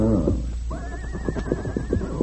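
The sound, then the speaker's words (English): A single riderless horse neighs, a shrill wavering whinny held for over a second, over a steady low rumble and rhythmic thudding that sounds like hooves. “His horse without rider.”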